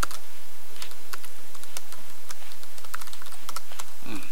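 Irregular typing on a computer keyboard while changing the keyboard language, a quick series of light clicks and taps on computer keys with uneven pauses between bursts, heard on its own with no talking.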